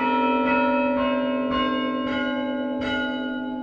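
Church tower chime bells at St. Mark's, played from a wooden console with 9 wooden handles, each connected by a cable to its bell up in the tower, ring in a steady sequence, one struck note about every half second over a sustained, overlapping hum of ringing tones. Loud and resonant, with no voices.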